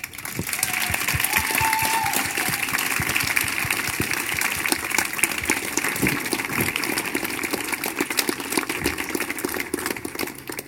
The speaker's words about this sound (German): Ihr dürft wieder richtig doll applaudieren für unsere nächste Poetin. Klatscht sie auf die Bühne.